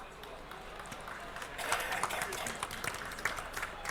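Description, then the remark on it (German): An audience applauds, a dense wash of many hands clapping that starts moderate and swells louder about halfway through, staying steady to the end. “Einen dicken Applaus nochmal”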